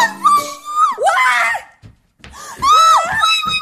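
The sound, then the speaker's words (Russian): A person screams in fright at a mouse in two loud, shrill bursts separated by a brief pause, the high wavering cries piercing. “Ой, эй, что такое? Что за крик?”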